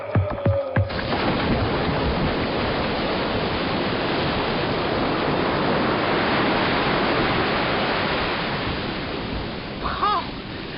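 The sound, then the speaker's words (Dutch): A large underwater explosion of a bomb in the sea erupts after a brief clatter, becoming a loud, sustained roaring rush of churning water that fills about nine seconds before fading slightly at the end. “Onderzeese, groot ontploffing.”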